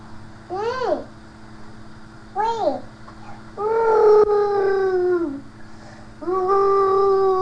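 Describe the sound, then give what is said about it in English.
A dog howls in a series of rising-and-falling cries: two short yelping howls, then a long drawn-out one and another sustained howl, fairly loud over a low steady hum. “Nice doggy sounds.”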